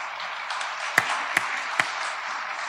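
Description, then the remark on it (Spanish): A crowd applauding steadily for a newly married couple, a dense crackling patter of many hands, with three sharper, louder claps popping out at a roughly even pace. No one speaks. “Un aplauso.”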